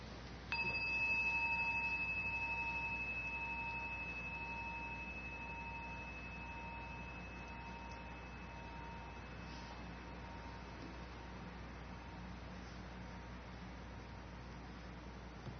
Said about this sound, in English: So just take a moment, just close your eyes and listen to the sound of the bell. And let the sound of the bell be an invitation to pause and to sense the difference between thinking and being here.